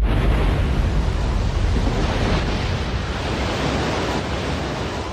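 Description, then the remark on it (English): A steady, loud roar of seawater surging and rushing back into a harbour after the sea level dropped 2 or 3 metres in a meteotsunami, with a continuous churning wash that holds level for several seconds, unbroken, with no voices. “When the water comes back, then it really looks like a tsunami.”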